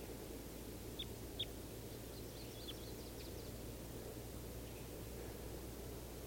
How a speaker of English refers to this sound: There are at least three birds in the trees. 391, another male and a female. And I think this is the female at the top of the tree that's calling.